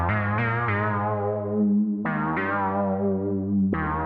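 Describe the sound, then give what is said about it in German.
A bouncy 1980s-style synthesizer sound, whose basis was available in a Yamaha device in the mid-1980s, plays short, rich harmonic notes in a springy repeating pattern, each attack bright and decaying, with a buzzy, effects-laden tone and no voices. “Der Sound springt so ein bisschen, er ist also auch geeignet, um einen Grashüpfer in einem Cartoon zu vertonen.”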